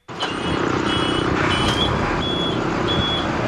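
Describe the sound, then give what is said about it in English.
A school bus engine idles loudly and steadily during its pre-trip check for the day while high-pitched reversing beeps sound at intervals over the rumble. No one speaks. “We are going to pre-trip my school bus for the day.”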